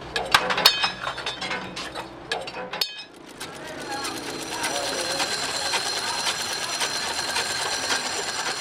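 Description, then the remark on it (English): A sewing machine stitches through thin plastic water bags, sewing them into purses and shopping bags: a busy, rapid mechanical clatter with sharp clicks, a brief pause, then a steadier, continuous whirring rattle, with murmuring voices underneath. “The thin plastic water bags are sewn into purses and shopping bags,”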